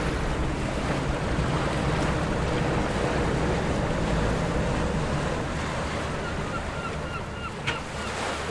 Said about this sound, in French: eh bien ils peuvent prendre place à bord du bateau amphibie, sur l'eau à marée haute et sur roue à marée basse. Un bateau unique, lui aussi, qui effectue la traversée vers l'île, quelle que soit la hauteur de la mer.